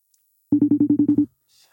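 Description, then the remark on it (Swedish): A single short burst of a phone ringing tone, a rapid buzzing warble of about eight quick pulses lasting under a second, fairly loud and clear, followed by quiet. “Det är trevligt, så att det inte är en annan Weigel vi ringer.”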